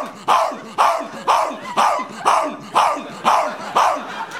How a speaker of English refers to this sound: And then right when you think they're done, home, home, home, home. The hell's the matter with ya? I'm a dog. I'm barking.